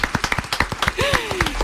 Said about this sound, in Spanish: así que un aplauso a mis compis.